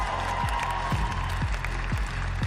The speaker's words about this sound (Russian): Друзья, ваши аплодисменты.